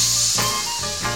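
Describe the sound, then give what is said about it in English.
A voice makes a long, steady snake-like "sss" hiss, the sound of the letter S, lasting about a second. It is fairly loud, with no other talking. “Now, come on, all you children, and make that S sound with me.”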